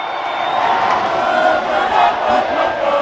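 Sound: huge crowd cheering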